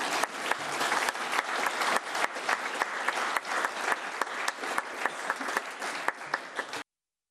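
An audience applauds steadily, many hands clapping in a dense, even patter at a fairly loud level for about seven seconds before it cuts off abruptly.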